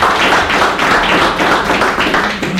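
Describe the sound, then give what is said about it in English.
A crowd applauds steadily for individuals who stood up in public to say what they stand for, a dense wash of many overlapping hand claps holding an even, fairly loud level throughout, with no voices over it. “And could we applaud these individuals who just exercised that?”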